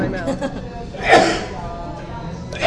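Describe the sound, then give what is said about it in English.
A single loud sneeze from a man sitting next to the speakers bursts out sharply about a second in, then fades, with indistinct voices murmuring in the background before and after. “That was the loudest sneeze I've ever heard in my life.”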